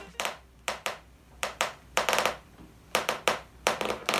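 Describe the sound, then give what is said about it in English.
Foley sound made by a Dutch Foley artist pressing across a balloon to recreate the effect at home: a series of about a dozen sharp, rubbery bursts in an uneven rhythm, some coming in quick pairs, fairly loud with no talking. “However, if you don't have access to a Foley studio, you can still recreate this sound at home by applying pressure across a balloon, as demonstrated by Dutch Foley artist”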